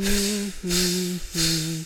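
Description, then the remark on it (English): A voice imitates air escaping from a punctured inflatable floating fish three times in a row, each burst a hissy rush over a steady, buzzing hum lasting about half a second. “It got a hole, the air came out.”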